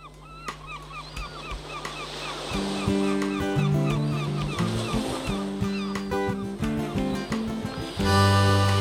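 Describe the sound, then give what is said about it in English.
Seagulls cry in repeated, high squawking calls, first alone and then over a band starting up with a steady, plodding bass line and chords that grow louder toward the end. “and with a help from some seagulls.”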